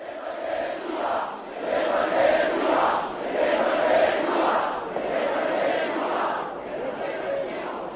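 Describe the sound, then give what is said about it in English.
A large demonstration crowd in Letná Park cheers and chants in sustained, surging waves, the roar swelling and easing over several seconds with massed voices blending into a continuous loud din, as dissident priest Václav Malý addresses it at the end of the afternoon. “At the very end of the afternoon, Malý addressed the crowd.”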